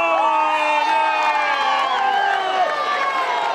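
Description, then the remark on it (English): A roadside crowd shouts and cheers continuously for Tour de France riders on a steep climb in Sheffield, many overlapping voices whooping and yelling at a steady, loud level throughout, with no pause. “People still shouting and cheering the riders.”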